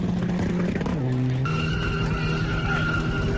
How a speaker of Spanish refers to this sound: Presenciaban o participaban en un espectáculo improvisado de derrapes, acelerones y maniobras, todo al filo de la tragedia, del desastre.